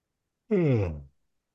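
A single person yawns once, a short voiced exhale that slides downward in pitch and trails off, heard against silence.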